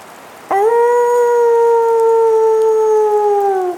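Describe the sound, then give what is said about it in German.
A single wolf howl starts abruptly and holds one long, steady, tonal note for about three seconds, dipping slightly in pitch as it fades. It sounds loud, with no talking. “Unsinn, heulte der Wolf.”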